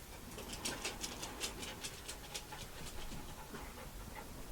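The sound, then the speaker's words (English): A dog, Flo, pants in quick, steady breathy bursts, about two or three per second, over a faint background hiss. No one talks. “Old Flo Dog. That's a little anarchist.”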